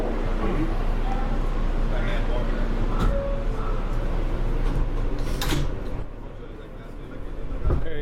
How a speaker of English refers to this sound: We're on the L train. We just left the Montrose Avenue stop here in Brooklyn. Now we're heading the other way into Manhattan.